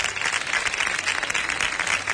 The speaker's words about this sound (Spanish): Por favor, que suban un aplauso para ellos.